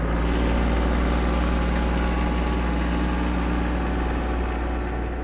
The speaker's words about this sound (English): The rally began with a rare sight, at least for Augusta. More than a dozen tractors and other farm vehicles rumbling down the streets surrounding the Maine Statehouse.